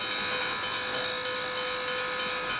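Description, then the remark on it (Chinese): A steam train lets out a long, steady whistle over a loud, continuous hiss of venting steam, with no voices, as the engine carrying Jackson pulls away from the station in Washington, where a silent crowd has gathered to see him off. “汽笛响起，一股蒸汽冒过，火车徐徐驶离。”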